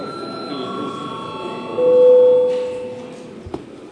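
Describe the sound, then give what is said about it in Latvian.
The bell of the Saeima, the Latvian parliament, rings to signal a break, a steady electric tone with bright overtones that holds for several seconds, swelling briefly in the middle before a short click near the end. “Laiks pārtraukumam. Lūdzu zvanu.”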